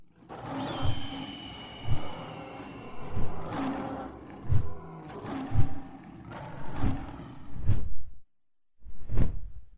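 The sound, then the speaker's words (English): A series of deep, rumbling lion roars repeats in rhythmic bursts, layered with broad whooshing swishes like great wings beating, loud and close, ending after a brief silence with one final roar. “I told you Mr. Beelzy would come, like a lion with wings.”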